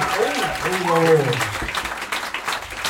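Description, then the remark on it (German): Steady applause from an audience for the 100,000 euro question, a dense wash of many clapping hands throughout, with a rising and falling voice or cheer riding over it in the first half. “Jetzt euer Applaus für die 100.000 Euro Frage.”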